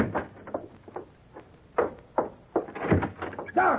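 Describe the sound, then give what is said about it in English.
A bedroom door is opened, with a series of knocks, rattles and thuds from the handle and frame over a few seconds, no voices. “The bedroom door.”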